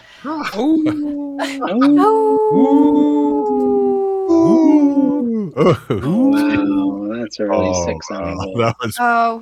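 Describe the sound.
A person howls like a wolf, a loud voice producing long sustained wails that rise, waver and fall, broken by a few short yips and breaths across several seconds.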